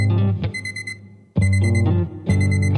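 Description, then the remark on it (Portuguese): An alarm clock rings loudly in three repeating bursts of bright electronic tones, each cutting in sharply over a steady deep bass hum, with no voices. “O despertador toca, desperta a minha dor, lavada em suor, que nojo, que horror, na era do pudor.”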